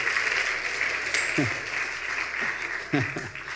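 A crowd applauds with a steady, dense patter of clapping throughout, and a few brief voices or whoops rise above it.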